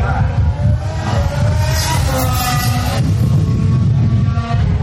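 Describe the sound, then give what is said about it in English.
Six Formula One cars scream past a race track in quick succession during a practice session, their high-pitched engine whine rising and falling as each one bombs by about 30 yards away, over a constant heavy rumble of wind buffeting the microphone. “This is what 6 Formula One cars sounds like bombing by during the practice session.”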